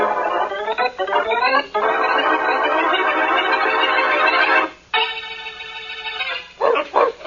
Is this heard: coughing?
no